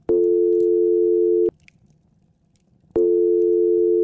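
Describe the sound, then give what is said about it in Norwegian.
Two long, steady electronic ringback tones from a phone call being placed, each lasting over a second and separated by a pause of silence, loud and clear with no voices. “Hev seg på telefonen til den personen med mer informasjon enn kvinneguiden.no”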